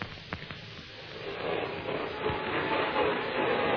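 A vacuum cleaner drones steadily behind a closed door, muffled and moderately loud, swelling into a continuous whooshing roar after a quieter start with a couple of faint clicks.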